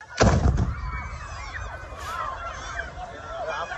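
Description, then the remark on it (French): A few sharp, loud bursts of gunfire crack out at the start, followed by a large crowd of Gazans shouting and calling out continuously as they move north along the Al-Rashid coastal road toward Gaza City under fire. The video was published by the official Palestinian news agency Wafa. “On y voit la foule qui se dirige vers le nord, visée par des tirs.”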